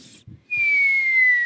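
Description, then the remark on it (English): A thin, high-pitched whistle rides on a steady breath, gliding slowly downward in pitch for about a second after a few soft low thumps; a whistling nose on an exhale. “Your nose is very whistly?”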